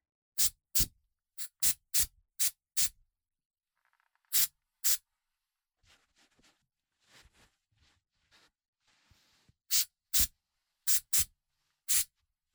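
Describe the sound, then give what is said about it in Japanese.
Short, crisp hisses of hair spray, used to set a customer's hair as the finishing touch of a styling, burst out in quick bursts, a rapid series at first, then quieter rustling before several more loud sprays finish it off. “髪を整えて、あ、ヘアスプレー使わせていただきますね。”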